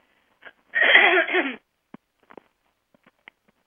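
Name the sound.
throat clearing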